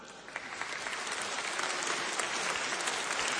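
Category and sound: crowd, warm applause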